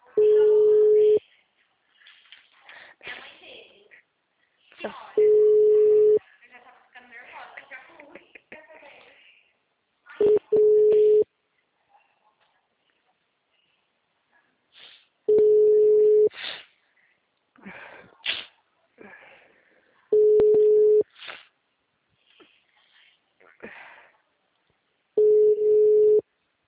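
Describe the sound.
A telephone busy signal: a steady mid-pitched tone sounds six times in loud, roughly one-second bursts at even intervals, with people talking in the gaps between the tones.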